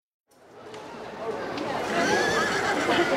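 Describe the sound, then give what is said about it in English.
After a brief silence, a horse whinnies over a dense, swelling roar of crowd noise and chatter at the Kentucky Derby horse race in Louisville, with faint hoofbeats mixed into the busy, loud background. “We're at the Kentucky Derby in Louisville. It's the most famous horse race in the world.”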